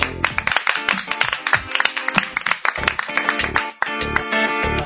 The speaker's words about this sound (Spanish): Un aplauso al que se retira con la mellada.